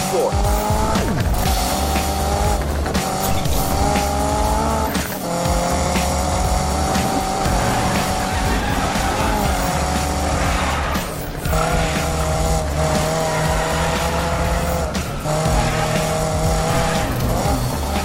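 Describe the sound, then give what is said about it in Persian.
Gameplay audio from the new Need for Speed video game by Electronic Arts: engine noise roars continuously, with revving cars rising and falling in pitch and tires squealing through the turns, loud throughout with no speech. “تصاویری که الان می‌بینید مربوط به گیم پلی واقعی نسخه جدید نید فور اسپید که مثل همیشه به طرفداران بازی‌های ویدیویی تقدیم میشه.”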